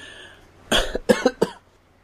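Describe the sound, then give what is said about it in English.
A short burst of three coughs in quick succession, fairly loud, the first slightly longer and raspier, then two sharper hacks, with quiet background before and after. “No, sorry, I also have this cough.”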